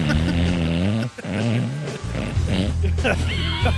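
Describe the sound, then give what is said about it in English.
A person imitates loud snoring, making a series of rough, throaty, pig-like snorts with a low buzzing rattle, broken by brief pauses, and mixed with other voices. “He's like, yo, that snoring, that was real, man.”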